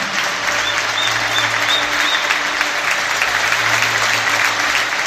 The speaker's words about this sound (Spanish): Ese es el aplauso, la ovación tremenda, cerrada, que recibió el canterano del Sardinero de sus aficionados. Ayer disputaba su último partido con la camiseta del Racing a priori en su estadio.